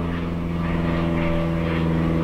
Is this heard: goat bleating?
no